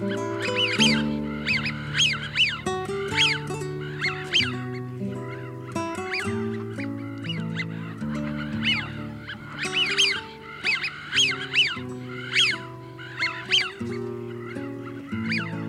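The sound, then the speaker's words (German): Eurasian wigeon calls: a rapid series of clear, rising-and-falling whistles repeating throughout, fairly loud, over a steady low droning background. “Das war die Pfeifente.”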